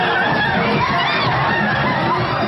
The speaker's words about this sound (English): A gay beauty pageant in Peru got physical after a brawl between two drag queens broke out on stage. I have some audio here, but all you hear really are just screaming.